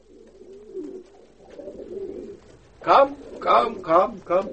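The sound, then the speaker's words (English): Soft, low cooing from birds murmurs steadily for a few seconds, then four louder, rhythmic coos ring out in quick succession. “When the birds come back, I shall tell them all.”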